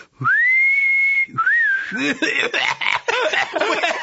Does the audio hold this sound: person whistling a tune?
yes